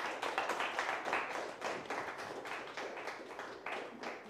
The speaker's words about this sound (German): Vielen Dank euch, herzlichen Applaus, habt ihr schön gespielt.